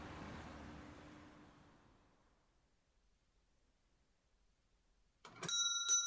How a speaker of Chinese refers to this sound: 在推开响着铃声的木门后，已经入座的他朝我挥了挥手，并露出那丝毫不见岁月痕迹的天真笑容。